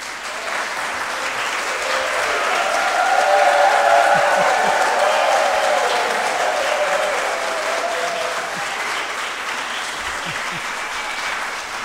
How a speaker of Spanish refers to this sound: Nosotros aquí estamos en la reunión anual hispanoamericana 2019 desde una linda ciudad fuera de la ciudad de Buenos Aires, en la provincia de Buenos Aires que se llama Pilar, y desde aquí todos nosotros les mandamos un aplauso.